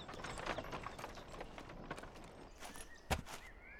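Hooves clip-clop at a steady walking pace, the rhythmic clopping of a horse-drawn carriage passing by, with a sharp louder knock near the end and no voices.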